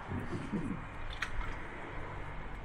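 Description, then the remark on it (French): A small sip of water: faint wet mouth sounds and a soft gulp with a brief click partway through, low and quiet, with no one speaking. “Petite gorgée d'eau.”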